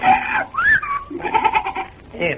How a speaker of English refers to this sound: Did you hear that? It's Miss Beebe's parrot. Yeah, I heard it. But where is the darn thing?